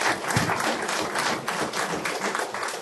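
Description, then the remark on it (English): A crowd applauds steadily, many hands clapping in a dense, even patter that holds at a fairly loud level throughout, with no voices breaking through. “And so, and yes, applause is appropriate here.”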